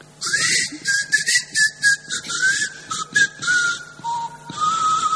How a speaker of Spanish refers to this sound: Está ubicada en algún mar misterioso, dice Mandeville con la exactitud que lo caracteriza. El único aspecto diferencial de este sitio es que sus habitantes no hablan, sino que silban.